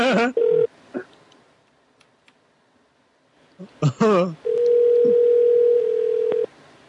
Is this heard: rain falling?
no